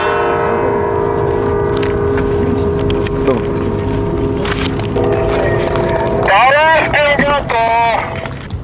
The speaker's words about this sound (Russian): На концерте колокольного звона в Троице-Владимирском соборе побывала журналист